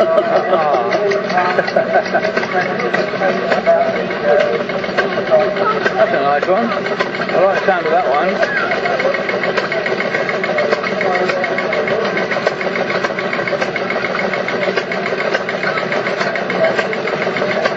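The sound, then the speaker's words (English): A small steam engine powering a Stuart Turner electric pump, from the Waveney Valley and District Preservation Society, runs steadily with a continuous mechanical chugging and whirring that never lets up, while people chat briefly over the noise. “Stuart Turner Electric Pump. Electric? Yeah. Being powered by a steam engine.”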